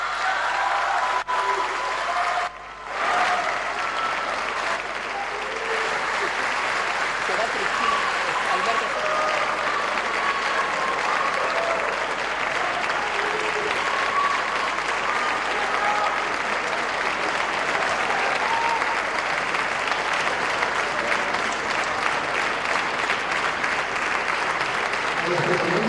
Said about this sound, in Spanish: Despedimos a la gobernadora saliente y al vicegobernador saliente con un muy fuerte aplauso.